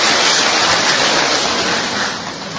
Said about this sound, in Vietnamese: Rồi, chúng ta một tràng pháo tay nữa để chào mừng tất cả bạn này.